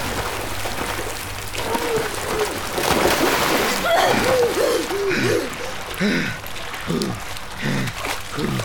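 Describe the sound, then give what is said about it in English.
Steady splashing and sloshing water runs throughout, fairly loud, like water churning and draining, with indistinct voices murmuring over it in the middle; water that had nearly filled a kitchen is draining away. “It's okay. The water's falling up. The water's going away.”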